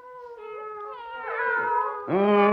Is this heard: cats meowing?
yes